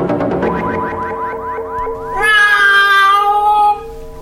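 A loud cat meow: a quick run of rising, chirpy calls flows into one long, wavering, whiny yowl that cuts off abruptly. No one speaks.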